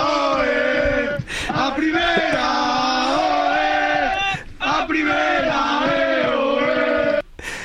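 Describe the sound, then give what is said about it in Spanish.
A sports team chants and shouts "¡A primera!" together in loud, sustained unison on the trip back from Daimiel after winning promotion, a rowdy celebratory cheer that rises and falls in rhythmic phrases with brief breaks between them. “¿Qué eras tú uno de los que gritaba ahí como el que más, claro?”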